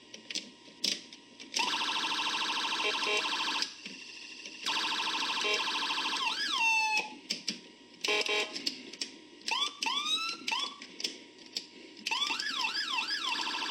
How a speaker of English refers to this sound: Just circles through all of them. Turns it off there, and that's it. Police siren.